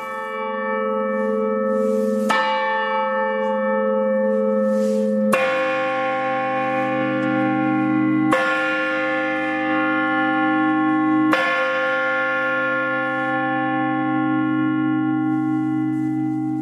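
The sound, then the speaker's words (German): Church bells of St. Marien in Lübeck ring out in a full, sustained peal, with several strikes layering over a continuous humming resonance of overlapping tones, loud, with no voices. “Und das hier sind die Glocken von St. Marien.”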